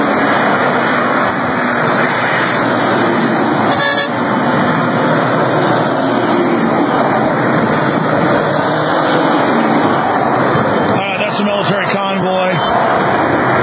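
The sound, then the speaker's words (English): Military vehicles in Delaware rumble past in a steady wash of engine and road noise, honking back at people, with a brief horn toot early on and a longer run of honking blasts later, indistinct voices mixed in. “Where this video was shot with the military driving by honking back at you guys.”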